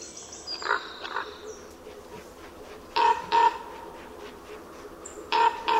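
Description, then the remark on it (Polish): Deep, hoarse croaking calls of a common raven ring out in short bursts, a pair early on and several more later, spaced by clear pauses over a quiet outdoor background. “Odnosi się wrażenie, jakby ptak się przedstawiał, powtarzając słowo kruk.”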